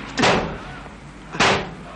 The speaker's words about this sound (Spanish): Golpea su coche.